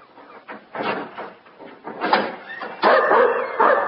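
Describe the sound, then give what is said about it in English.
A dog named Rick, on the other side of an iron door, gives a series of short, uneven barks and yips mixed with high whimpering, growing louder and more drawn out toward the end, with no one speaking. “Quiet, boy. Get down.”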